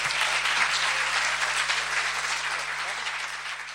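Sustained applause from an audience, a dense, steady wash of clapping that holds at an even loudness throughout, fading only slightly toward the end, with no voices standing out.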